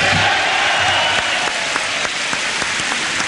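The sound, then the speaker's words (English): Members of the United States Congress, all standing, applaud the President of the United States in a steady, dense roar of clapping, with cheers mixed in throughout, loud and continuous with no pauses. “Once again, everyone standing, everyone cheering and applauding.”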